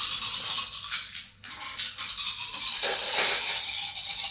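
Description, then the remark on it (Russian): Dice rattle steadily in a cup during a cyberpunk tabletop role-playing game, a dense, bright clicking that briefly pauses before resuming with a harder clatter of tumbling dice near the end, with no voices. “Тогда бросай кубики.”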